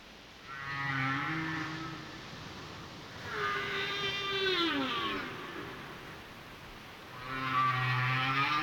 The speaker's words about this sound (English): The ability of whales to communicate and socialize over vast distances through constantly evolving song is thought to predate human abilities by some 14 million years